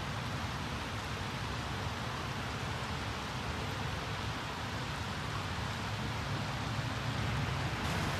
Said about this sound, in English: I got to pull myself together with the rain for a second. It's raining.